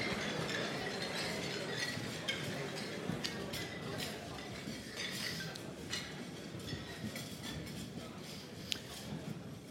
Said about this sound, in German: Darauf stoßen wir an, wir haben zu lange nichts getrunken. Prost beieinander, schön, dass wir zusammen sind.